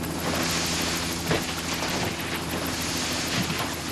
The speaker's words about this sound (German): Der Helikopter verschwand am Horizont.